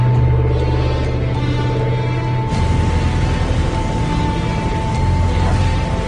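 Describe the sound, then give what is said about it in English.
The engines of a 215 water bomber aircraft roar at full power during a test flight in a loud, steady, droning hum with strong low tones; the engine note shifts slightly partway through, and no one speaks. “Arnie flies the 215 full out.”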